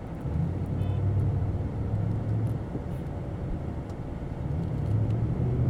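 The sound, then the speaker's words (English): Car horns blare in long, sustained honks over a steady rumble of road traffic at an intersection, where a truck in a left-hand turn lane is trying to get into a right-hand turn lane; one extended blast followed by a pause and then another drawn-out honk, fairly loud. “So I'm sure you heard some people decided that they wanted to honk their horns a little bit”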